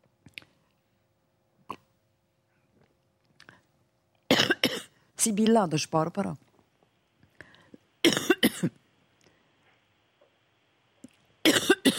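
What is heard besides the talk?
coughing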